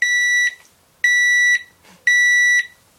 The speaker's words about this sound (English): Oh, that's my heart monitor. Oh, I guess you're dead. I flatlined.